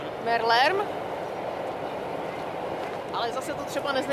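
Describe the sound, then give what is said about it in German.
A steady, broad rumble of a long freight train rolling along rails beside the Elbe river, carrying cargo to Hamburg, fills the whole stretch, with brief snatches of a voice talking over it near the start and again near the end. “Natürlich macht das mehr Lärm. Aber der Zug verschmutzt nicht das Wasser.”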